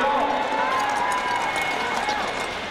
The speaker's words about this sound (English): That's 24 skaters, their clap skates, and a sellout crowd at Pettit last month on the final day of Olympic trials.